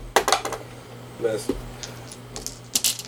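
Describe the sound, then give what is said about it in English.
Round-cornered dice clatter across a tabletop during a game in quick bursts of sharp, rattling clicks, a flurry at the start, a lone knock midway, then another rattle at the end, over a low steady hum. “Fuck, you didn't even let that dice settle,”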